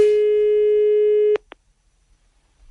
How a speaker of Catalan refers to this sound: Si em voleu deixar un missatge a mi, doncs ja ho sabeu, quan soni el pip. Adéu, gràcies.